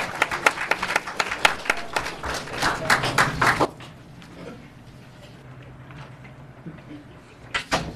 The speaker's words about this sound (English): Yes. Wonderful. Let's give Ms. Scott another round of applause.